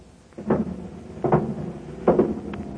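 A heavy prison door is opened by the jailer with three clanking, scraping bursts, each a short metallic knock followed by a rattling drag, with no voices.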